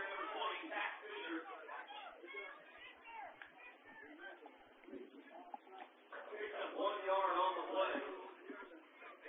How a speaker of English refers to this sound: Good crowd on hand. Nice, cool fall evening. Here in Northeast Kansas, watching some TBL action.